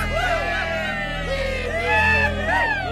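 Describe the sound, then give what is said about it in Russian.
A crowd of marloks whoops and yells triumphantly from the bushes around a trap clearing, many overlapping rising and falling cries filling all three seconds, loud, over a steady low rumble. “кусты вокруг обманной поляны буквально взорвались торжествующими воплями марлоков.”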